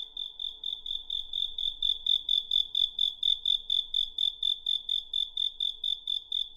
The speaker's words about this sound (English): In Beijing, crickets are still sold in spherical bamboo cages in the summer. When I first lived in the city in the 1990s, some delivery riders with their flatbed tricycles would hang a cricket cage from the handlebars.